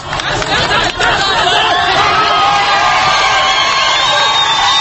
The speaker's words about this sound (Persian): جوانی کلاه یک مامور را بالا می‌گیرد. تظاهر کنندگان خلع سلاح ماموران را مورد تشویق قرار می‌دهند.